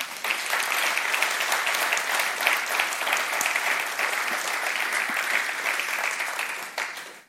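An audience claps steadily for about seven seconds to thank the people who regularly bake cakes, a dense, even wash of many hands that fades out quickly at the end, with no talking.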